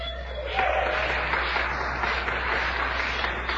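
Audience applause at a college ceremony honoring students called up to receive plaques: a steady wash of many hands clapping at moderate loudness, starting a little softer then holding evenly for several seconds with no voices over it.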